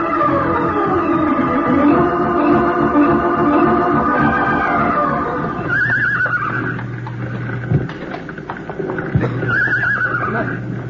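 Frightened horses in a burning barn neigh in alarm, one long shrill whinny sliding downward, then two sharper, shorter whinnies later, with hooves clattering and restless stamping over a dense, constant noisy background.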